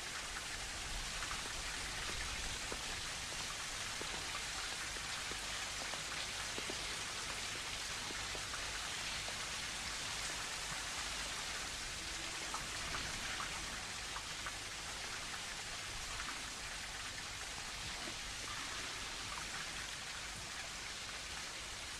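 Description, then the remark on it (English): A steady, continuous wash of flowing water with a fine, fizzy texture, holding at an even level throughout with no voices or pauses. “I was absorbed in water.”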